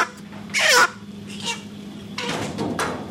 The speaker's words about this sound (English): carries by the feet two chickens a customer has handpicked. At a blood-splattered counter, he bends back a bird's neck and draws a long knife along its throat.